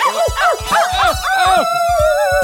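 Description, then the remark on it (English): Dogs bark in a quick, loud run of about half a dozen sharp yaps, closely spaced and overlapping, with a thin sustained whine carrying underneath. No one speaks. “These crazy dogs are making me so mad.”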